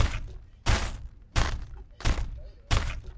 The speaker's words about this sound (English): Okay, so after a couple of minutes, you hear somebody. It sounds like they're getting frustrated and stomping towards the direction that you were in.